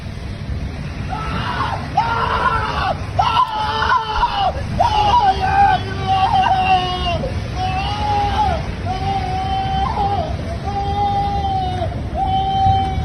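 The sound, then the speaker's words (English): A man screams in pain again and again, a string of drawn-out wailing cries rising over a steady rumble of crowd noise and background commotion. “But play that video again. Just listen to the guy scream.”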